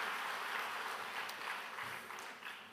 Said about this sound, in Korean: 여러분, 우리 수원분당 연합합창단 다시 한번 큰 박수 보내주시기 바랍니다.